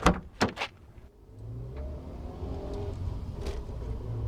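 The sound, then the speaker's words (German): A car door opens and slams shut with a few sharp clunks as someone gets into their car, followed by the engine starting and settling into a steady low idle. No one speaks. “Wütend und genervt stapfe ich aus dem Gebäude und steige in mein Auto.”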